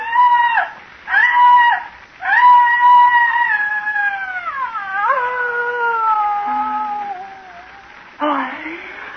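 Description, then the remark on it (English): Loud, anguished shrieking from a human voice: three short piercing cries, then a long wavering scream that slides downward in pitch before a final ragged burst. “Came a frightful shrieking, torn from the throat of a damned soul in torment, and I fell forward on the ground and something fell with me.”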